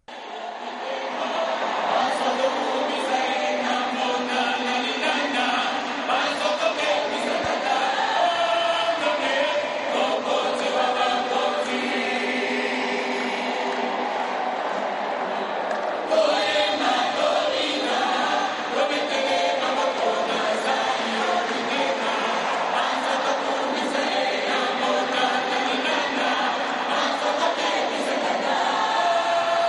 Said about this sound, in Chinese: 2月2日上午，首都金沙萨体育场人潮汹涌，许多双手高举向天，人们以如雷贯耳的欢呼声向教宗方济各致敬。